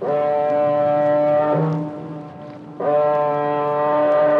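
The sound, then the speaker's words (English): A car ferry's foghorn sounds two long, loud blasts as the ferry comes out of the fog in the English Channel, a deep steady drone rich in harmonics, separated by a brief pause with faint background noise. No one speaks. “A car ferry looms out of the fog in the English Channel.”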